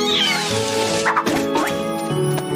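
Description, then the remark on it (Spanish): A kitten's high, wavering meows rise over a dense backdrop of music and bustling sound, with a couple of short cries standing out in the middle. “¡Solo tres gatitos más! Los otros deben andar cerca de aquí.”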